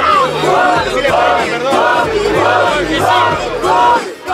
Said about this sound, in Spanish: la música de fondo, y automáticamente las 1,000 personas empiezan a gritar.